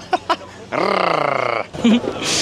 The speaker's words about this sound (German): Soll ich auch gurgeln? Mhm. Bei dir klingt es immer, als würdest du knurren.